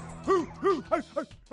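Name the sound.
dogs barking and yipping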